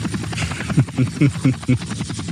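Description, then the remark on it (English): A voice imitates a lawnmower engine, making a rapid, pulsing low drone of repeated chugging bursts that sputters along for a couple of seconds at a moderate level. “We need a lawnmower sound effect is what we need.”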